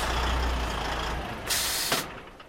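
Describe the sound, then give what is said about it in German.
A heavy, shiny silver tanker truck carrying 27,000 litres of French red wine idles with a low engine rumble as it stops at an entrance of Switzerland's largest wine warehouse in Pratteln, canton Basel-Land, then releases a loud, sharp hiss of air brakes lasting about half a second, followed by a brief puff. “Vor einem Eingang hat gerade ein silbrig glänzender Tanklastwagen gehalten.”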